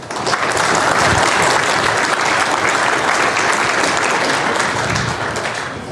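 A large audience applauds steadily to welcome a speaker before a talk on Linux permissions, a dense wash of clapping that holds at an even, loud level for several seconds before easing slightly at the end.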